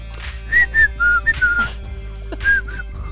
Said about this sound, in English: You just put your lips together and you start to blow, and you blow my whistle, baby. Whistle, baby.